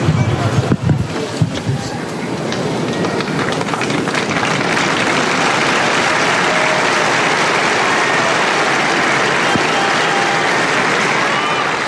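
Sustained applause from a large crowd in St. Peter's Square at the Vatican, a dense, even wash of clapping that stays loud throughout, with a few louder bursts and some wind-like rumble near the start.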